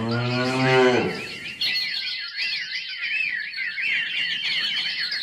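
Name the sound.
cow mooing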